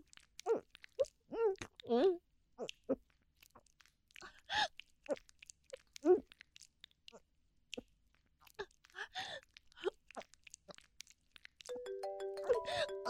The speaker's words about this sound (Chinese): 等一下，我电话来了。